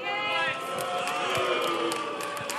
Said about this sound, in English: What are they booing?